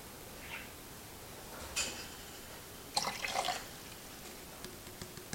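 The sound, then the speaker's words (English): About 570 milliliters of water, a little warmer than 20 degrees, is poured into a container in a short, quiet splash, then a brief fuller pour, followed by a few faint drips amid otherwise still surroundings. “There's our 570 milliliters of water.”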